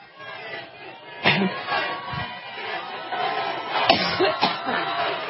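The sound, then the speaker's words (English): A woman coughs several times in sharp, separate bursts during a speech while drinking water, over a steady murmur of crowd chatter, with voices continuing in the background between the coughs. “I know they're covering for her, chanting things while she's drinking more water and coughing.”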